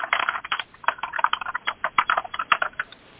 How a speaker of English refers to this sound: And whoever's typing in the background, could you please mute yourself, star 6, okay, because I can hear a little tapping back there, okay?